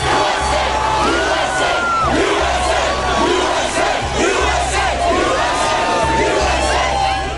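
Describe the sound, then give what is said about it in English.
A dense, loud crowd roars and chants outdoors, outside the White House in Washington or at Ground Zero in New York, after news that the United States killed Osama bin Laden; many voices shout and cheer together in continuous waves over a steady low rumble. “Huge crowds have gathered outside the White House in Washington and at Ground Zero in New York.”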